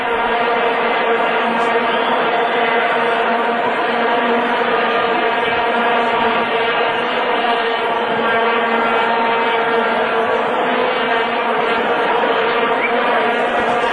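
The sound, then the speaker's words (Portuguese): A loud, unbroken drone of many vuvuzelas, horns about 1 metre long, blown together by football fans at matches in South Africa in 2010, a steady buzzing tone thick with harmonics that holds for the whole stretch with no talking. “Vuvuzela é uma corneta de cerca de 1 metro de comprimento.”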